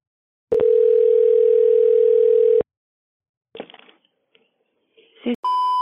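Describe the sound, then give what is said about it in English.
A phone line rings on the caller's end: a single steady ringback tone lasting about two seconds, then a quiet pause with faint clicks and rustle, ending on a brief electronic beep. “I was like, oh, these people are going to be pissed when they answer the phone”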